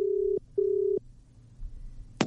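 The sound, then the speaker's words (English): Two steady, buzzing telephone tones sound in quick succession as a phone line connects for a call to the Joy 94.9 radio show in Melbourne, followed by a quiet hiss and a sharp click as the call picks up. “All right, here he comes, Dan Roberts on the phone.”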